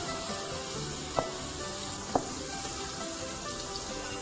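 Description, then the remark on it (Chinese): Steady, crackling sizzle of tofu frying in a hot pan until lightly golden but still tender, continuous, with a couple of sharp little pops or clicks standing out near the middle. No one speaks. “好，那也要仔细看啊，这个豆腐呢不要煎得太焦哈，因为我们还是要有一点嫩嫩的感觉哈，还没，我们再把它再煎稍微有一点点的黄。”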